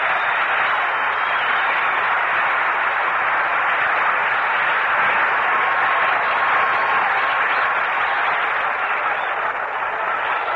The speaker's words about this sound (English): Let's check up on his record again just to be sure of it as he strides in from the bullpen to the mound. Williams is coming on in his 40th ball game. He's pitched 185 and a third innings. He's got a record of 14-12. A round of applause for Roebuck.